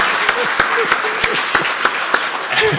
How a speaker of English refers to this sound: All right, thanks everyone. I'd just like to ask for a round of applause for our henchman,